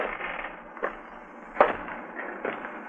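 Footsteps on a city sidewalk: three evenly spaced, sharp steps cut through a steady, broad hiss of background noise. No one speaks.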